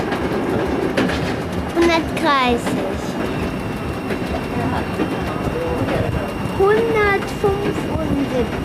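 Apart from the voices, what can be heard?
train running on rails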